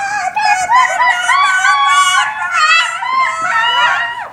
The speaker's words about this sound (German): Ein Pfannendeckel ist am Boden gefallen. Und die Hühner haben erschrocken gegackert.